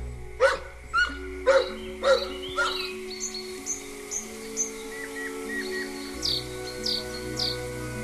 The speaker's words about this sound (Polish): Jak pani słyszy, śpiew ptaków w jakimś studio, gdzie robi się podkład.